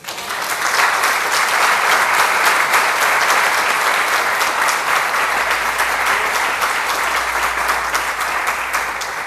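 Sustained audience applause, a dense steady wash of many hands clapping at full loudness for about nine seconds, with a low hum joining underneath toward the end.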